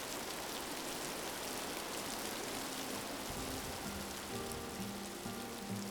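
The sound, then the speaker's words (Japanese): Steady spring rain patters down on a roof overhead, a dense, continuous hiss with occasional heavier drips, heard from underneath the roof's shelter with no voices. “もう春だけどさ、雨が降ると冷えるね。”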